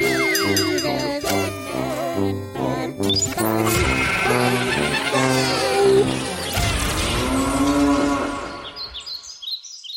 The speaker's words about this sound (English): The cow makes me smile every time. It's also appropriate for today.